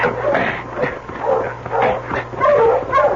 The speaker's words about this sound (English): stop that dog, dear. Oh, hold up. Oh, hold up there.